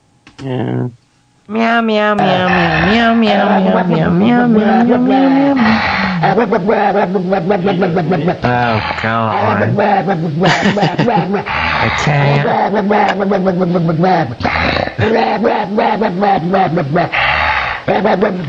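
An angry dog growls and snarls throughout a loud, continuous song, its rough, gliding vocal sounds woven tightly into the music from start to finish.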